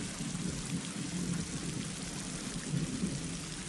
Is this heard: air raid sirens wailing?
no